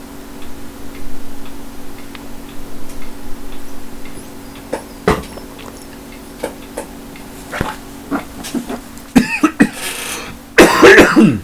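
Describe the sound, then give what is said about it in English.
Scattered sharp clicks and taps give way to a harsh coughing fit near the end, a couple of loud sputtering bursts as someone chokes after taking a drink of water. No one speaks. “Let's get back to me coughing and dying after taking a drink of water.”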